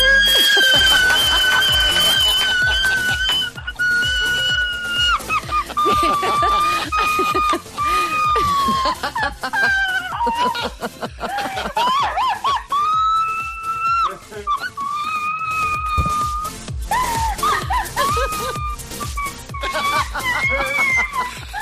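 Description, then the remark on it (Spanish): Shrill, sustained screaming rises and falls continuously, the way riders shriek on a thrill ride at the Warner theme park, sounding thin and phone-like over a steady, thumping rhythmic backing. “Está en la Warner. Ay, …. Enhorabuena, …. Se ha tirado. Gritan menos en el Dragon Khan”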